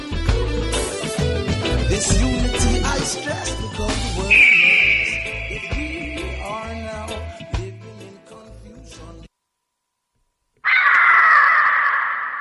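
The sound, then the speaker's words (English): Chaotic shrill squawks and screeches of birds in a studio, with a long high whistling note, then a short silence before a loud, harsh, breathy roar like a lion's. “It's not really a technical difficulty, it's just birds invading the studio. Possibly a lion as well, I don't know.”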